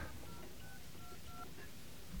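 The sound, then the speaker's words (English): A series of about four or five short touch-tone keypad beeps as a password is punched into a phone voicemail system, sounding in quick succession over a low, steady background hiss. “Please enter your password.”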